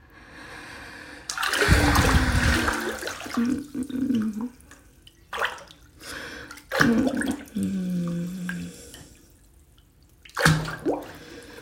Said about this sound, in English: Just enjoying this warm water all over me.